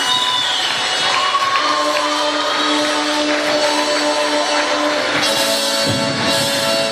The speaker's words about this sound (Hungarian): Jöjjenek az első helyezettek, a győztesek, a Suri Indira táncegyüttes Suról! Gratulálunk, nagyon szép volt! Nagy tapsot kérünk neki! Gratulálunk, lányok!